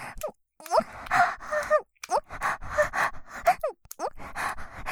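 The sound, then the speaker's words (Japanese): A woman's breathy panting and moaning, a run of short airy breaths broken by higher voiced moans with brief pauses between bursts, fairly loud and with no words spoken. “私の吐息混じりの喘ぎ声が聞こえるたび、脳が震えておちんちんの感度が増しちゃうね。”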